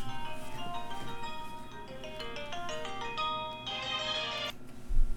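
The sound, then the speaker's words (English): A phone rings with a call from home health care people. The melodic electronic ringtone plays a quick run of bright repeating tones steadily over a low background hum, with no one talking. “But I thought, oop, there's a phone now.”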